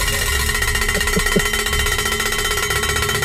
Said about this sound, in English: I think my ears are bleeding. Oh. That was the most enthusiastic cowbell ringing I have ever heard in my entire life.